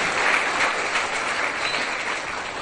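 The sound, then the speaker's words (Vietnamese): A group of children claps together to applaud themselves, a steady, dense burst of applause that carries on evenly for a few seconds, fairly loud, with no talking. “Nếu thích thì hãy cho tràng pháo tay để hoan nghênh chính mình.”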